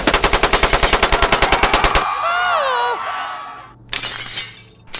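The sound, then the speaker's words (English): A rapid, even burst of roughly twenty gunshots fired to shoot the front door off a Dunkin' Donuts during a robbery, then a loud crash of shattering glass and clattering debris, followed by another short burst of noise near the end. “We're two cloaked men with clown masks on, and we're in jean shorts, and we shot the front door off with a gun, and we're robbing this Dunkin' Donuts.”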